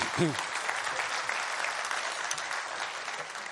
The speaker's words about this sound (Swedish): Visst var det bra? Ja, ge dem en riktig applåd till.